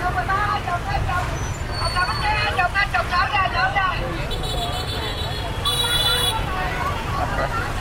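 Steady roar of street traffic heard while crossing a street, with a bus rumbling past, engine drone low and continuous, a brief hiss of air brakes, and faint chatter from people.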